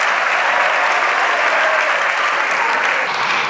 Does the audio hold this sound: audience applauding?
yes